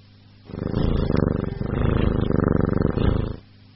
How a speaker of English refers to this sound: It's a cat.